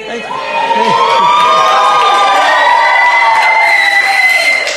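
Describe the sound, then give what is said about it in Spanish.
A live studio audience at a Friday live show erupts in loud, sustained shouting and cheering, with high whooping voices rising and falling together for several seconds. “Este programa se hace con público presente y la mucha gente libre que y grita los viernes.”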